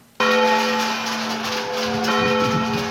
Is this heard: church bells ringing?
yes